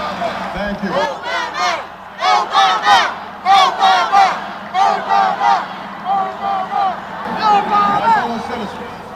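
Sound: crowd chanting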